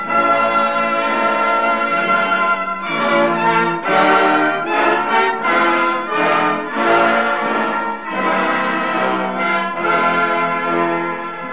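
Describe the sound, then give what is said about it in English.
A peal of bells rings loudly and continuously, overlapping strikes blending into a rich, shimmering ring that keeps going throughout with no voices. “I think you can start ringing those bells again.”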